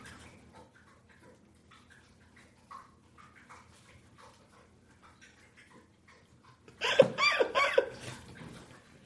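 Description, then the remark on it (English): A female pet monkey named Ursula drinks water with soft, rapid lapping and clicking sounds repeating for several seconds. A sudden loud, harsh burst of noise follows near the end. “Yeah, she's thirsty. I want to see how long she'll drink water.”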